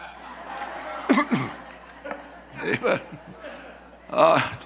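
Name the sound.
coughing and throat clearing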